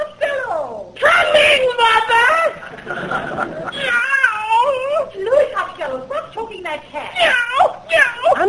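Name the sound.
cat yowling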